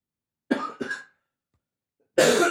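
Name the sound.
coughing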